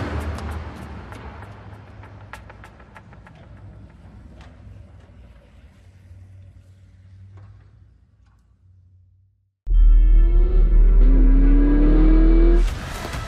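A low rumbling idle with faint ticking, then a car engine suddenly roars in loud, revving and climbing in pitch as it accelerates for about three seconds before cutting off.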